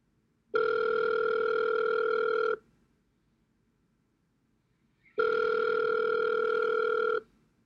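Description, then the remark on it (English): Two long ringing tones of a phone call to a colleague going through, each about two seconds, separated by a pause of silence, steady and fairly loud with no voices. “So, I picked up the phone and quickly called my colleague.”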